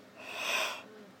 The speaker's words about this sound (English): Oh, her cough seems to be getting better.